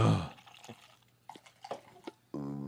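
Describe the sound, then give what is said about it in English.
Strawberry vanilla Olipop soda splashes and drips as it is poured into a mix of several Olipop flavors, a run of short, irregular wet spatters over a faint steady hum, with a brief burst of voice at the start and end. “Oh, my God, splashing.”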